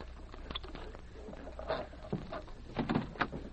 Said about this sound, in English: Open the safe, hurry.